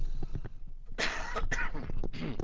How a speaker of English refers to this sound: I'm going to have a quick cough here and then finish off.